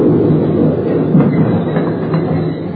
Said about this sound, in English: As the train moved into the station, I rolled and pinned myself tight onto the concrete ledge as the wheels came to a stop, now 3 inches from my face.